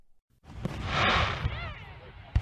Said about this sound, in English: When the world gets too loud because of fireworks, or just to take a quiet break on the weekends,